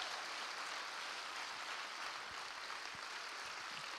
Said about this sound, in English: Can you clap your hands unto the Lord? Come on, if you're excited, can you clap those hands a little bit louder?